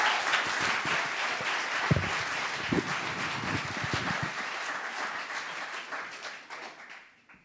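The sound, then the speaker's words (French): An audience applauds steadily to welcome a speaker, a dense crackle of many hands clapping at an even level for several seconds before tapering off at the end. No one speaks over it. “Et puis, on peut l'accueillir et l'applaudir.”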